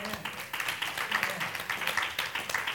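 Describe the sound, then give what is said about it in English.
A crowd claps hands together in a dense, steady burst of applause, many overlapping sharp slaps blending into a continuous bright patter that holds at an even level throughout. “Clap your hands.”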